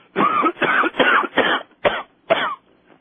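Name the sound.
coughing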